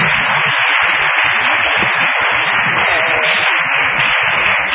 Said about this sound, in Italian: Io credo che la professoressa meriti un applauso perché è stata molto